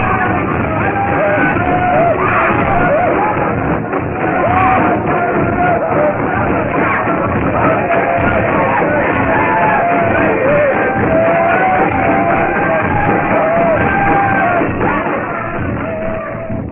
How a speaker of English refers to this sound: the gyrating, hideous dancing of the natives becomes more frenzied. Their shouts and yells carry to the jungle,